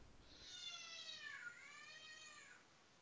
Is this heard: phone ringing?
no